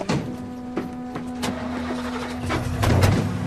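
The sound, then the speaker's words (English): A greyish-green truck's engine cranks and catches, with a steady hum, a few sharp mechanical clunks, and a louder, rougher rumble swelling near the end. No one speaks. “Yeah, nice truck.”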